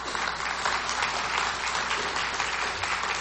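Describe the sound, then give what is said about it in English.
An audience claps together in a steady, dense wash of applause that holds at an even level for the whole few seconds, with no voices rising above it. “And it's really exciting, and you can clap, because here's the great thing, is we've seen 7 or 8 of them come to know the Lord.”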